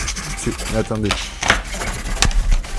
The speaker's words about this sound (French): Attends, elle gribouille une feuille.